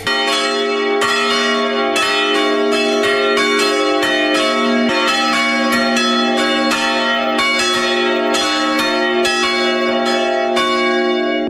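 Three church bells, including a historic bell that is the oldest in the area, ring together in a steady, overlapping peal, loud, with repeated strikes layering a rich sustained metallic tone throughout; no voices are heard.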